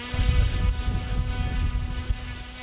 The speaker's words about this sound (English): In an abandoned field behind a suburban Southern California shopping mall, a few guys are flying what looks like a radio-controlled model airplane.